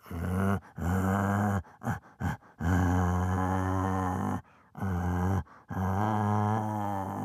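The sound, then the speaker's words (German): A man, an animal-voice imitator, imitates a bear's growl in several long, deep, rumbling bursts with short pauses between, loud, with no other talk. “Oder ein Bär.”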